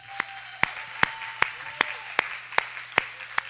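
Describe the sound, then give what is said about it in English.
An audience claps together, applauding Jesus on the Sunday after Christmas, in a steady, even rhythm, about nine sharp claps over a few seconds, with a faint low hum and a soft sustained tone underneath. “Let's applaud Jesus this Sunday after Christmas.”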